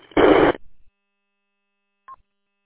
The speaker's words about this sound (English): When I unkey the mic, it's almost like the, I got a very loud, like, squelch tail, maybe, a lot of static when I unkey. Is that normal?